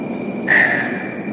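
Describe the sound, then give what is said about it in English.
A metro train rumbles through a station, a steady mechanical hum underneath and a sharp, high squeal briefly rising over the noise, fairly loud. “Fucking hate the metro.”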